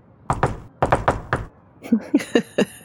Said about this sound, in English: So what we'll do is we'll say, as you guys were having this conversation, Dr. Powell, you hear a knock on the door, a jaunty knock.